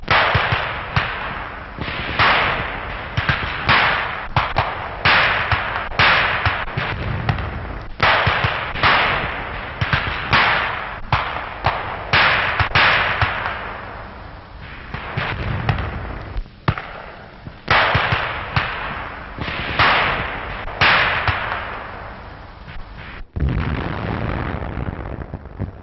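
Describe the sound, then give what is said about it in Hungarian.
A rapid series of explosions as a demolition patrol blows up obstacles at enemy positions, sharp booming blasts going off one after another with hardly a pause, loud, on a muffled, old-sounding recording with no voices. “Egy robbantójárőr kúszva megközelíti az ellenséges állásokat, és levegőbe röpíti a gyótakadályokat.”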